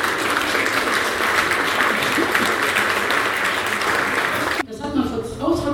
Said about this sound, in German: Wahrscheinlich ein kleines Applaus da.